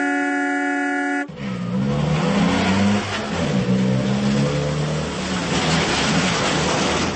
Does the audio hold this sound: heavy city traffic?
yes